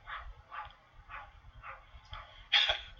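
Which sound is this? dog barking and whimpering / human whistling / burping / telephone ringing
dog barking and whimpering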